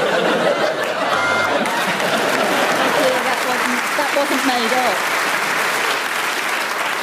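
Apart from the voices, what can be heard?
audience applause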